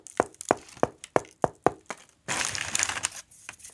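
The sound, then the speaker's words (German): About seven dull, hollow knocks in a steady rhythm on the underside of a hand-held bread loaf with a dark brown, cracked crust, tapped to check it is baked through, followed by a short burst of dry crackling and crinkling. No one speaks. “Man kann es dann in die Hand nehmen, kann von unten dagegen klopfen.”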